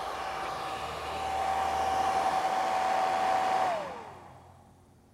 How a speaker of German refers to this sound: Drücken Sie Dryer. Ihr Gesäß wird getrocknet.